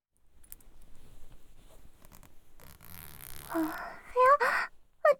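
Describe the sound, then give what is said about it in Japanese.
A raspy zip of a customer's trouser fly being pulled down, preceded by soft fabric rustling and followed by brief high vocal sounds. “じゃあ、おズボンのチャック失礼して。”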